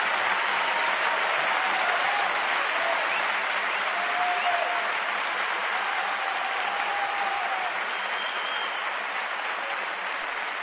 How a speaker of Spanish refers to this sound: Un fuerte aplauso